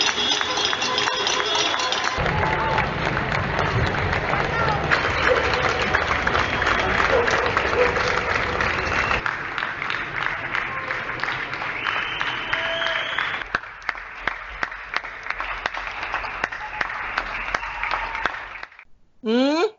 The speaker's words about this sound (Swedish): Men det hade gått ut ett upprop i sociala medier att alla spanjorer skulle utställa sig på sina balkonger klockan 10 på kvällen och applådera sjukvårdspersonal. Och då såg det ut så här.